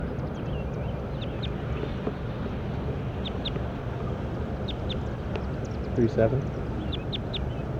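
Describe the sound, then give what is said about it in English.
A recording of bird number 37: short, thin, high-pitched bird chirps come in scattered pairs and small clusters over a steady, loud low rumble, with a brief harsher squawk-like burst near the end. “Recording bird 37.”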